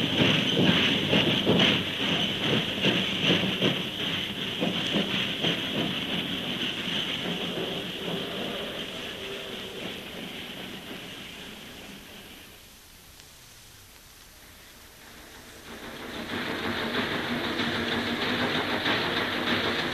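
A train rolls along the rails with a quick, steady rhythmic clatter over a constant hissing rumble. The noise dips briefly past the midpoint, then swells back up. No one speaks.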